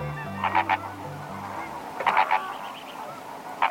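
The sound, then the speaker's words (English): Loud, nasal goose-like honks from flamingos, coming in short bursts of two or three calls with brief pauses, over a low steady hum in the background. “With fancy pink feathers, legs like stilts, and a beak shaped like a boomerang, few birds are as wildly distinctive as flamingos.”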